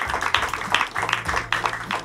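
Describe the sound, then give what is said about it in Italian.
Steady applause from an audience for guests on a stage, a dense patter of many hands clapping at once with some bursts of cheering, moderately loud and continuous throughout. “Un applauso, visto che sono tutti contenti.”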